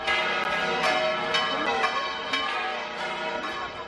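The bells of the Basilica del Pilar in Zaragoza, Spain, peal continuously at midday for five minutes in a rich, ringing wash, with fresh strikes landing roughly twice a second over lingering overtones. Loud and steady, with no voices.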